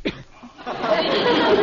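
A sneeze: a short sharp intake, a brief pause, then a long breathy, hissing burst of air that stays fairly loud to the end.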